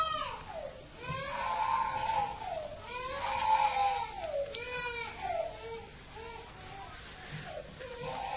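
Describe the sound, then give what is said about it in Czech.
A young child cries loudly during a sermon at a religious gathering, drawn-out wailing sobs that rise and fall one after another with only brief catches of breath between them. “To nevadí, že tady máme pláč, já jsem to myslím, že už někde říkal, že ve shromáždění, kde nepláčou děti, by měli plakat dospělí.”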